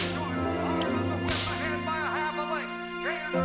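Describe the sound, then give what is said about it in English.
During a race at a racetrack, a jockey lashes a racehorse with a riding crop: a sharp, loud crack, followed by a couple of lighter snaps, all over a dense, steady background of tonal racetrack din. “Removing his sunglasses, he observes a jockey whip their horse with a riding crop.”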